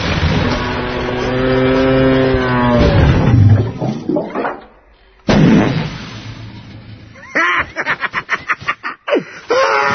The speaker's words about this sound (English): Okay, here's what you do. You just sneak up in front of them and then honk. And they do the rest. Watch this.